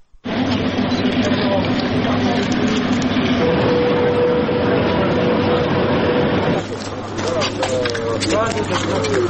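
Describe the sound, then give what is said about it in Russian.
An evacuation train from Pokrovsk sits at a busy station in Kropyvnytskyi after arriving, its steady engine hum running beneath loud, continuous platform bustle and crowd chatter, with the noise thinning briefly near the end. “Вчера в Крапивницке прибыл эвакуационный поезд, который отправляется в 16:30 из Покровска ежедневно.”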